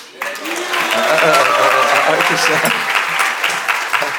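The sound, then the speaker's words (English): A crowd applauds steadily, a dense wash of clapping that swells quickly and holds at a loud, even level for several seconds, with faint voices mixed in underneath. “Sorry, I didn't ask them to get an applause.”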